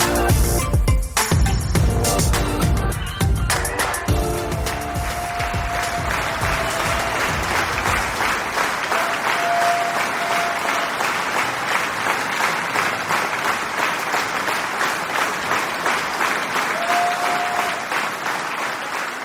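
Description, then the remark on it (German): Sustained applause from a large crowd, loud and steady for nearly twenty seconds, with a burst of louder clapping and whoops at the start before settling into dense, even clapping. “Liebe Hörerinnen, liebe Hörer, der Applaus war für euch.”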